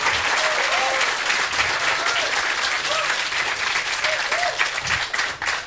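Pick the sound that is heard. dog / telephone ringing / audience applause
audience applause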